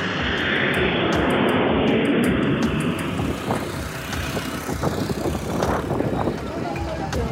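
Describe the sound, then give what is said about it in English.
A loud, steady jet-engine roar of an airplane taking off from New York's JFK Airport, headed for Nicaragua, fills the whole stretch, rumbling and hissing without pause, with indistinct voices faintly mixed underneath. “Orlando boarded a plane and headed home to Nicaragua”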